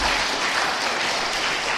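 A crowd bursts into steady applause, dense clapping at an even, fairly loud level for a couple of seconds with no voices over it.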